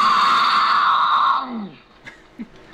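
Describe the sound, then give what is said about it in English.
A female mountain lion in heat screams: one loud, harsh, drawn-out wail held steady for over a second, then sliding down in pitch and fading, followed by two brief, faint calls. “He says the most misunderstood sound is the infamous mountain lion scream.”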